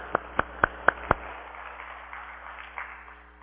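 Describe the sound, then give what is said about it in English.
A short burst of clapping in a church for everybody who has prayed 10 minutes that morning: five sharp, evenly spaced claps in a quick steady rhythm, then the sound trails off into a faint, low murmur. “Just so that if they needed that, that they got their applause.”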